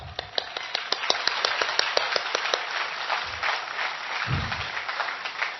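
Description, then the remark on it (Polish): An audience applauds, the men clapping to counter earlier applause, critical of a friend in a story, many hands clapping in a dense, steady wash with a few sharper claps standing out early on, then thinning slightly toward the end. Low thumps appear briefly. “To teraz były brawa krytyczne co do tamtej koleżanki.”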